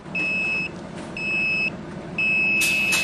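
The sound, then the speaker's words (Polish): A breath carbon monoxide tester emits three steady electronic beeps, each lasting about half a second, clear over a low background hum, signaling a smoker to breathe in and blow into a mouthpiece on the third beep; the last is followed by a brief burst of hiss. “Trzeci sygnał i dmuchamy.”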